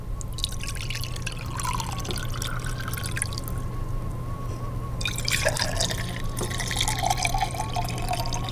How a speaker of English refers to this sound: Yeah, I'll have more coffee. I'll pour.